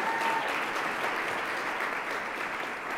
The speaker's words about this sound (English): Let's give it a round of applause for all the brothers in the room. Thank you for showing up.